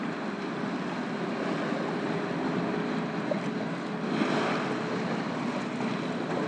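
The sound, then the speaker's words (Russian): A steady, broad wash of ocean surf with waves breaking on the shore, rising into a slightly louder surge partway through, with no voices and no clear gaps between waves. “Вы слышите шум прибоя.”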